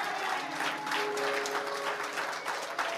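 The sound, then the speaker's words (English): A church audience claps their hands together as a hand clap of praise to God, a sustained, dense burst of applause, many overlapping claps forming a steady wash of sound at an even, fairly loud level for the whole three seconds. “If you love the Lord, give God a hand clap of praise.”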